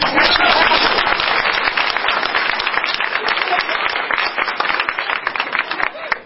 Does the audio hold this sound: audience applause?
yes